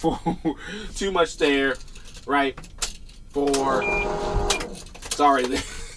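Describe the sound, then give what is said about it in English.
A clothes dryer's end-of-cycle buzzer sounds briefly in the background, a steady electronic tone lasting about a second while a man keeps talking over it. “That's my dryer going off there.”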